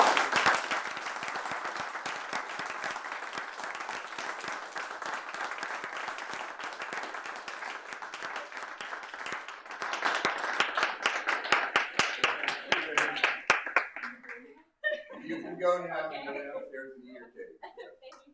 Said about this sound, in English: And so I think we should give them all a round of applause.